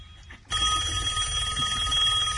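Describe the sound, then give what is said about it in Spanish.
A telephone bell starts ringing abruptly and keeps up a continuous, bright metallic trill, loud, with no voices over it. “¡Teléfono! Ah, ahí está.”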